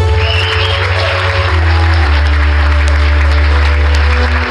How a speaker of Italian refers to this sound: Applaudiamo, facciamoli sentire quanti siamo. Applaudiamo di più, più forte.